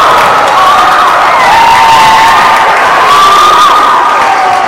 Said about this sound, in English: The crowd here going wild for Matt Malloy. The eighth grader. Even the Church Farm fans are going crazy. And immediately at the other end, number 22 puts it in for two, but Matt Malloy got a standing ovation from this crowd at Church Farm Gymnasium.